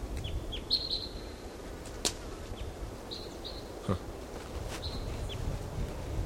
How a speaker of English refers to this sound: Okay, there's another bird. Maybe the same bird, but we don't know. Singing in the top of this tree. My bird.